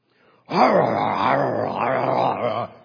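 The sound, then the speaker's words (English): A voice mimics a vicious dogfight between a St. Bernard and another dog in a yard, producing a sustained, loud, rough growling snarl that rises and wavers for about two seconds before cutting off. “Bernard, wandered into our yard one day, and I heard this horrible dogfight going on.”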